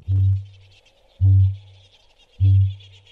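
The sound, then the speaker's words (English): A kakapo, a green, feathered, flightless bird, gives three deep, resonant booms at a steady pace, each a low hollow pulse lasting about half a second, with a faint high chirring of insects continuing underneath. “This green, feathered, flightless bird with its curious booming sound has captured the hearts of New Zealanders, winning the Bird of the Year contest twice.”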